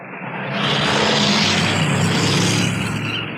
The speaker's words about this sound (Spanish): Las dos potentes limusinas corren por el sinuoso camino que bordea la estribación de la Selva Negra. Van a encontrarse con el veloz carro de Calimán, que viene en sentido contrario.